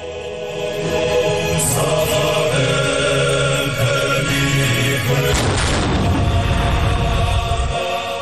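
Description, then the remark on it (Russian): Ceremonial cannon salvos marking the inauguration of fifth president Zurabishvili in Telavi boom out over a steady, noisy outdoor background, with a heavy low blast partway through that rumbles and fades. No one speaks. “Там нет царского дворца, как в Тель-Авиве, где вступление в полномочия пятого президента Зурабишвили отметили даже пушечными залпами.”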